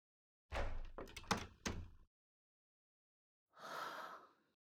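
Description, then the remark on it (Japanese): A door at the front of a café is unlocked with a key and opens with a quick series of clicks and solid thunks from the latch, followed after a short pause by a soft, breathy whoosh. “開いた。”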